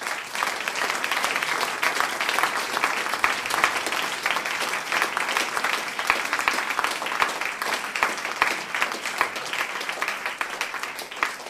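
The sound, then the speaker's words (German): Sustained audience applause for the volunteers who make the event possible, a dense, steady wash of many hands clapping at an even level for several seconds, with no voices standing out above it. “Und darum bitte einen herzlichen Applaus für alle, die nicht dafür kommen wollen.”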